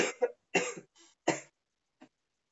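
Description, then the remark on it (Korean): A person coughs several times in quick succession, harsh bursts with short gaps, then a fainter final cough trailing off. No speech. “아, 기침 그만해.”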